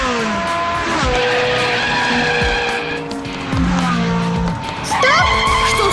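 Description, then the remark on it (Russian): A car in a computer driving game revs hard and climbs in pitch while tires squeal and skid through repeated sharp turns, loud, with no voices throughout. “Дим Димыч, газуй! Полный вперед! Нет, поворачивай налево! А теперь крути руль вправо!”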